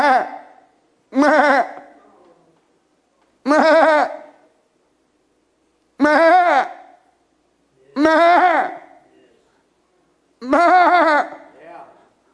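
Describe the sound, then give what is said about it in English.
A sheep bleats six times in a row, each wavering cry loud, separated by short pauses of a second or two. “So the sheep is now lost. You hear it bleating.”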